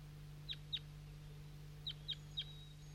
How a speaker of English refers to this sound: Recording at 7:11 a.m. and I got the net set up at the hilltop, and that's 5-3 calling to some wild birds that just arrived on the scene about 30 seconds ago.